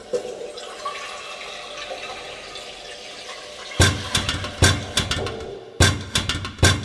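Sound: running water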